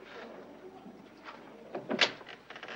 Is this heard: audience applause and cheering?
no